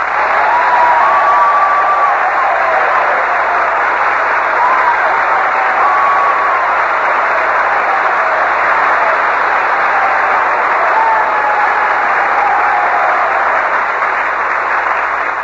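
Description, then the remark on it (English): Sustained, loud applause from an audience of servicemen saluting Commander Robert Montgomery for his Navy war leadership, a dense wash of many hands clapping steadily without pause, with faint cheers or whistles rising above it. “Well, Robert, you can tell by that applause that these boys are all intensely interested in your Navy career.”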